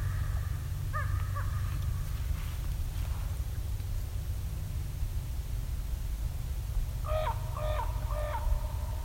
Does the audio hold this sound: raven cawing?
yes